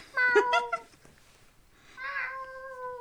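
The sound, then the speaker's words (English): A person's voice imitates a cat meowing twice, fairly loud: a short wavering meow, a brief pause, then a longer drawn-out meow that fades. No talking. “The meow of, like, meowing that I do, my mom and I just, like, meow at each other sometimes.”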